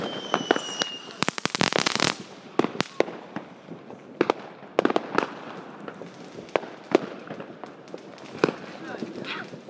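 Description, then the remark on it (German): Fireworks whistle and bang in a dense barrage at New Year 2014 in Lehmrade, with rising whistles early on and repeated sharp explosions and crackles throughout, some loud, others fainter, with faint voices in the background. “Hier wird jetzt ordentlich gepfiffen und geknallt.”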